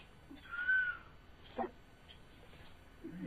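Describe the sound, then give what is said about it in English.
A voice imitates a cuckoo call: one drawn-out hooting note, then a short second note after a brief pause, fairly quiet against a faint background hum. “You could tell them they're all sound little cuckoos, like little cuckoos.”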